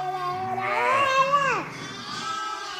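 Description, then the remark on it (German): A small boy, carried on his shepherdess mother's back among a group of ewes and their lambs, gives a drawn-out, wavering bleat, copying a sheep's 'baa' in one long vocal call that rises and then drops away. “Er macht auch schon Schafgeräusche.”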